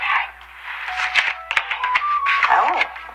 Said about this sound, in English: Okay, I'm just shuffling the cards now. Yes, okay. Okay, so I'm cutting the cards now.